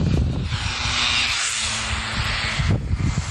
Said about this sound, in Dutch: Maar ondertussen gaan steeds die auto's, die razamen voorbij. Aan de rechterkant.